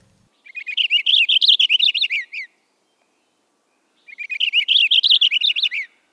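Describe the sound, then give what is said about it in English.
Two bursts of rapid, warbling purple finch song, each about two seconds long and separated by a short pause, with fast tumbling notes that sound clear against a quiet background. “These little purple finches almost sounds like you're rewinding a reel-to-reel tape at fast speed.”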